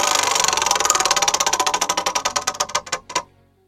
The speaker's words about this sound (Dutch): Dan is het tijd om een slinger te geven aan het rad.